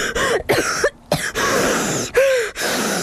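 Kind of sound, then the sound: human body sound, choking cough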